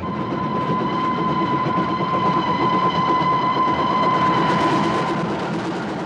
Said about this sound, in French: Insensiblement, le train s'ébranle, avance, s'en va enfin, puis court et fonce.